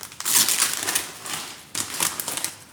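Loud crinkling of packaging being unwrapped from a cookbook, a steady run of crackly plastic rustles with a brief pause partway through and no voices.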